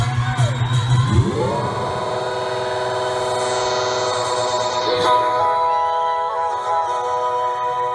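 An excited crowd cheers and whoops loudly without a break, while blaring horn-like tones swell and slide in pitch over the roar. No one speaks.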